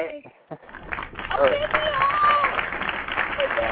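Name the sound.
audience clapping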